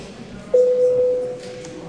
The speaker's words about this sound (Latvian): Paldies, lūdzu zvanu.